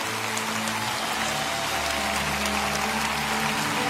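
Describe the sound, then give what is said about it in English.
A large Lakewood audience applauds steadily for people standing all over the building, a dense wash of clapping that holds at an even level throughout, with soft sustained low musical tones underneath and no talking. “Come on, Lakewood, let's give them a hand as they stand all over the building.”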